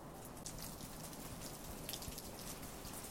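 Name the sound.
rain falling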